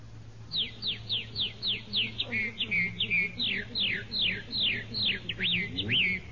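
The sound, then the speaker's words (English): A person whistles an imitation of a red-winged blackbird: a steady run of quick, downward-swooping chirps, repeated in a bouncy rhythm over a faint low hum. “Red winged blackbird.”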